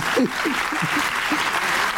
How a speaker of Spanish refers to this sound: Se puede aplaudir, ¿eh?